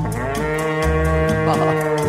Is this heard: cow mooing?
yes